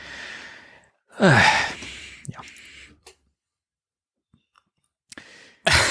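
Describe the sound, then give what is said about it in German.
A single drawn-out yawn with a breathy, falling voiced tone, followed by a softer exhale, a stretch of near silence with faint clicks, and a brief breath at the end. “Was war das denn gerade? Ich habe gegähnt.”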